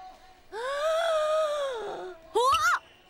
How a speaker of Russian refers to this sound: Браво! Вот это зевок!